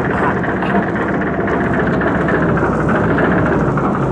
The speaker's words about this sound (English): What you have just heard is a symptom of a sick car.